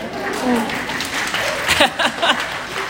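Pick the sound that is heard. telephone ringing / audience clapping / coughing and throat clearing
audience clapping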